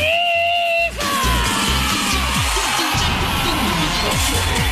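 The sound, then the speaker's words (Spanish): A group of voices, the team of La Punto 7, lets out a loud, sustained celebratory yell sent as a greeting shout, several people shouting together at once, energetic, with a brief rising whoop leading into the burst of cheering. “Para tu mamá Karina y Francisco, de parte de todo el equipo de La Punto 7, te mandamos un tremendo abrazo y un grito.”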